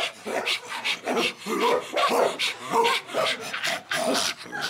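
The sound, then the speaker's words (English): Several dogs on leashes, including Carl and Butters, being walked around the block bark in quick, raspy bursts, roughly ten in a steady rapid run, fairly loud and with no talking over them. “these are really important dogs.”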